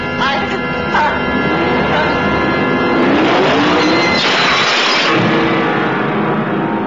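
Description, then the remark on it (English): A car engine runs and revs steadily, its pitch rising and falling over dense, loud background noise, with some voice-like sound mixed underneath. “I think I hear the engine of that car. It's around here somewhere.”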